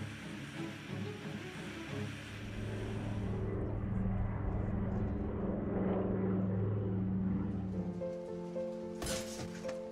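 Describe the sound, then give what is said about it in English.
A DC-3 propeller airplane drones steadily with a throbbing, harmonic engine hum that swells louder midway, then shifts pitch near the end, with a brief noisy burst. “The DC-3 was launched in California in 1936, and in just 10 years, more than 16,000 of them were produced.”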